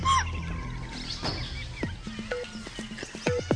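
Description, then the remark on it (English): Deer sound alarm calls warning of an approaching Bengal tiger: a series of sharp, high barks with brief tonal squeals, repeated irregularly over a low rumbling background with no talking. “But the deer, with keen senses of hearing and smell, get wind of the imminent danger and sound the alarm.”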